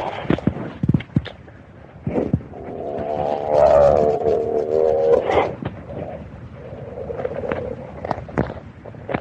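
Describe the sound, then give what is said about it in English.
Pine needles crackle and snap underfoot in scattered, irregular bursts, broken midway by a loud, drawn-out tonal groan lasting a couple of seconds before the crisp crackling resumes. “That's pine needles cracking underneath their water.”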